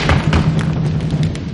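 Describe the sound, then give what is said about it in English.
An audience imitates thunder in a group-made storm with a steady, loud rumble of low thumps and stamping over a hiss of rain-like noise, holding at full strength before easing off slightly at the end. “And then we need to go for a bit of thunder.”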